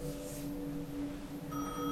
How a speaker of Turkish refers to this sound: İkinci kez çalınca telefon zili olduğunu anlıyorum.